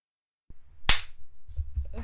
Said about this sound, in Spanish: ¿Y tú por qué chasqueas los dedos? Pues porque tú das palmas y yo hago el hit hat.